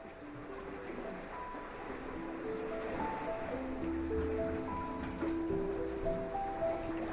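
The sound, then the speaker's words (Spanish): Ocean waves wash against the shore in a steady, continuous roar, with soft sustained musical tones drifting over the surf. No one speaks. “Ambos de frente al océano han dejado sus cabellos al aire.”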